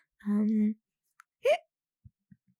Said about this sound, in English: Sorry, hiccup.